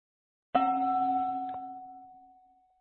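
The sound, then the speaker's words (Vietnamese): A single bell is struck once during a tea ceremony with a sharp attack, then its clear, steady tone rings on and slowly fades, fairly loud, with no talking. “Với tiếng chuông và chén trà, hai tay dâng trước ngực, chúng ta từ từ đưa chén trà lên.”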